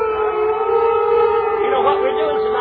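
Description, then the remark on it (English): A person lets out a long, steady, loud wolf-like howl, holding one wavering pitch while another voice speaks over it. “I hear a wolf howling now.”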